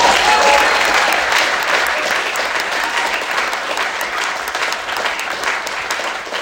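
Sustained audience applause, a dense wash of many hands clapping steadily and loudly for several seconds, tapering slightly toward the end with no clear speech over it.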